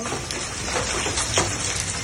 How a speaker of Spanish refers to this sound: Cayendo hielo del cielo aquí. Mira eso, hielo del cielo.